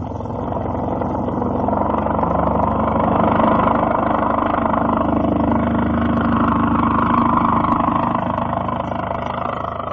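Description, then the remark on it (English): A propeller airplane engine drones steadily as the plane climbs higher and higher in flight, a continuous low, rumbling hum that swells slightly in the middle and holds at an even, loud level with no voices. “This is the most beautiful flight of all. Higher and higher and higher.”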